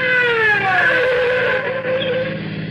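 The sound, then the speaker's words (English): A patrol car's engine drones loudly and steadily, its rich tone sliding slightly in pitch as it draws up behind a speeding car on Old Mamaroneck Road, with no voices over it. “Oh, hear that? Patrol car?”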